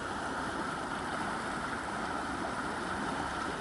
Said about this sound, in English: Although after heavy rain last night, I think the only way that you'd be crossing the river other than over the footbridge is in a boat, because it is rather full today.